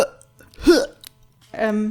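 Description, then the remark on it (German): A voice imitates retching in two short gagging bursts: a sudden throaty heave with a wobbling pitch, then after a pause a longer, strained, groaning gag. “Vielleicht kann ich so kleine Kotzgeräusche.”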